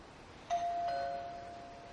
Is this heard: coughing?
no